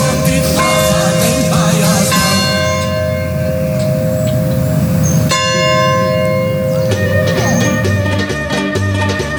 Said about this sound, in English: The wedding bells were ringing last night.